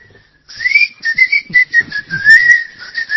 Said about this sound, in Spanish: Pero lo peor es que no puedo silbar, doctor. Claro. Porque silbar con un labio solo es difícil. Sin embargo, he perfeccionado un silbido de dientes.